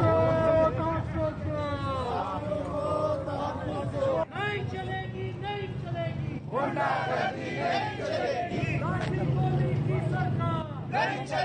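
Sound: protest crowd chanting slogans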